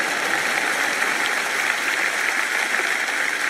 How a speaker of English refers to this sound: And I'm not going to stop till you clap on that because that was good.